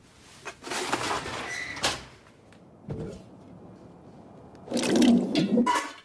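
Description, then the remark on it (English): Fairly loud splashes as sliced carrots are dropped into a pot of water, one burst early on and a longer, busier splash of plunks and sloshing near the end, with no voices. “Sliced carrots are dropped into a pot of water.”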